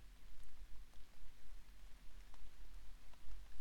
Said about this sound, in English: Yeah, listen to the soft drum of the rain against the window pane.